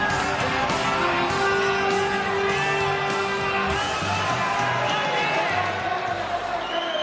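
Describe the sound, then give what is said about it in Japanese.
A loud, unbroken crowd roar of cheering as Japanese featherweight boxing champion Eiji Date enters from the red corner before a ten-round Japan featherweight title match at the Champion Carnival. It holds steady for about seven seconds with a dense wash of many voices. “こちらも大歓声、その風格はまさに東証伊達英治貫禄の入場です。”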